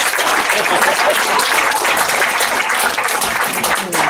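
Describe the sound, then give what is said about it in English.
An audience applauds unprompted, a dense wash of many hands clapping at once, loud and sustained for several seconds with no voices over it. “Since I got the clap out of you, see, now I can challenge you one more time.”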